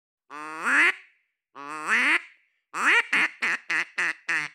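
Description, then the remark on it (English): John Chambers's duck call instrument quacks loudly during an interview, not in a wetland: two long, nasal, rising quacks, then a rapid run of about six short, choppy quacks. No one speaks. “John Chambers actually brought his trusty duck call instrument to our interview.”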